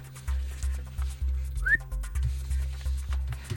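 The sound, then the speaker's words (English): A single short whistled note, made by a person with their mouth in a studio, glides upward, brief and fairly clear, over a steady low thumping rhythm in the background. No one speaks. “I mean, I hear whistling in the studio.”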